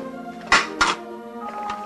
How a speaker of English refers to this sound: Now Selena helps Gordon clear dishes from his kitchen table.